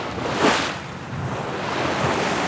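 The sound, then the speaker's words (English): Open-sea waves wash steadily around a shrimp boat at night, with one louder surge early on and a constant breezy hiss. No one speaks. “At sea is where this fourth-generation shrimper feels at home.”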